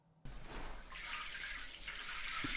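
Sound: shower water running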